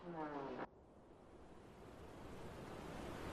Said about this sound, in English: And the river. Listen, it's roaring. Ghazal Ozan is one of the roaring rivers of Iran.